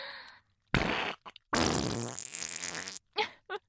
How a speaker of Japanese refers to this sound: 出た出た、やっぱり我慢した後のおなら最高ね。それに便秘してるとよく出るわ。